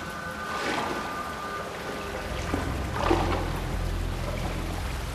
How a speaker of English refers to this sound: Wading through water up to their knees, bathed in a ghostly ultraviolet light, the others continue down the tunnel, checking the walls, floor and ceiling with their lights. The water foams and bubbles where they walk.